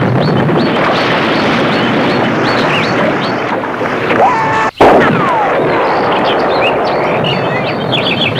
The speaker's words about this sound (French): Entendu l'énorme explosion et voit l'ambulance en feu.